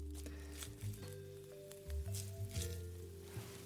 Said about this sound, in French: On va les récupérer et on va les égoutter. J'essore bien mes algues dans une passoire.